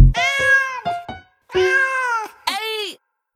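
A cat meows loudly, giving several drawn-out, wavering meows with a couple of short chirps between them, with no talking.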